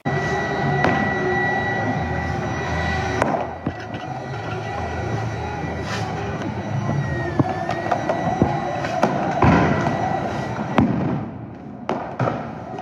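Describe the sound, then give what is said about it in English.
A loud, chaotic outdoor protest crowd in Portland roars continuously while sharp explosive bangs and firework pops burst out every few seconds, some punchy, others softer, with whistling streaks overhead, as federal agents shoot munitions into the crowd and protesters throw back tear gas canisters and fireworks. “Feds shot more and more munitions into the crowd, and protesters tossed back canisters of tear gas and fireworks into the federal lines.”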